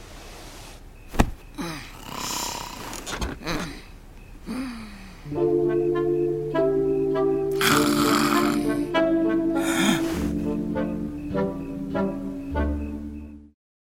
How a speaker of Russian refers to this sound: Ну ладно, спи, храпун.